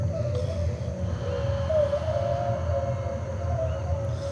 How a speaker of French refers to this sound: des chants de baleines particulièrement érotiques.